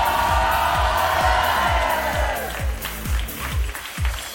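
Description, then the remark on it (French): A concert audience applauds and cheers loudly as the performer's longtime technical assistant is called on stage, with dense sustained clapping and whoops, while a steady thumping beat pulses underneath. The clapping thins slightly toward the end. “Une avalanche d'applaudissements pour Antoine.”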